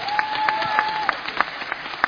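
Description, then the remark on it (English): An audience applauding for Jesus, with steady scattered clapping throughout and a thin high-pitched tone ringing faintly over the first half. “I say clap for Jesus.”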